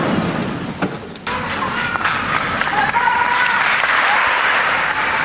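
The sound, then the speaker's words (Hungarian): Sustained crowd applause greeting the Holy Father (the Pope) and thanking him for his blessing and words. A dense, steady wash of many hands clapping at full strength throughout, with faint cheers and voices mixed in. “Szokásos módon tapssal üdvözlik a Szentatyát, és köszönik meg az ő áldását, az ő szavait”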